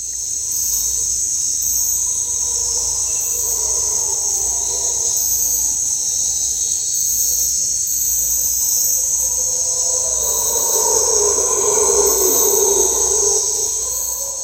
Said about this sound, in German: Nicht erschrecken, es sind keine Ungeheuer im Wald, sondern es sind Brüllaffen, die sehr, sehr laut sind. Ich wusste nicht, wie laut die sein können und wie die klingen, aber ihr hört es jetzt gleich.